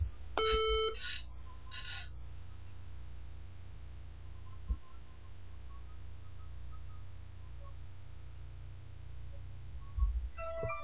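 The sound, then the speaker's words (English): A short electronic beep with a harmonic-rich tone sounds near the start as a device is reset by pressing its reset and record buttons at the same time, followed by a couple of bursts of buzzy noise, then low background hum and another brief beep at the end. “And after beep, you should hear broad display coming back on.”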